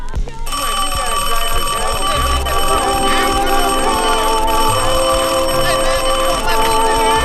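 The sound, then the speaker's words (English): A telephone rings loudly and steadily for several seconds, its bright, shrill tone filling the space, with some faint background murmur underneath. “Don't answer the phone, even if it's me calling, man.”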